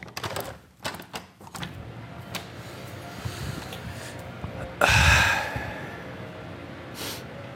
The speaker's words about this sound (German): Ich reisse das Fenster auf und schnaufe durch.